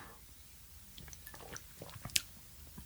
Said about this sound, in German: Und ich nehme mal einen Schluck aus diesem fantastischen Glas